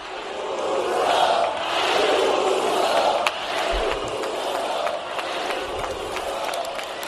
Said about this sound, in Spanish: Son los gritos en el que se podía escuchar a la gente concentrada en Génova repetir Ayuso, Ayuso.